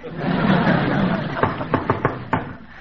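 A knock on a door: about five sharp raps in a quick, uneven pattern, following a second or so of steady background hiss with no voices.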